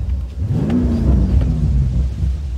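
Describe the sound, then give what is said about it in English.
A car engine revs and accelerates along a smooth road in the Palos Verdes hills, a steady low rumble rising in pitch as it pulls away, loud with no voices. “They are the platonic ideal of driving roads, the video game version of reality.”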